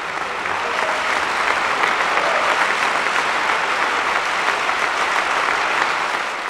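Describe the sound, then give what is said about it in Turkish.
Steady audience applause sending off a violin virtuoso, a dense wash of many hands clapping at an even level throughout, with no voices standing out above it. “Biz de …'ı alkışlarla uğurlamak istiyoruz.”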